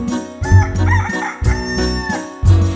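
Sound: rooster crowing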